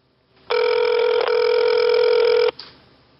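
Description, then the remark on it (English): A phone's ringback tone sounds once as an outgoing call rings unanswered: a loud, steady electronic burr lasting about two seconds, then silence except for a faint click. No one speaks. “He sees it's me and he don't answer.”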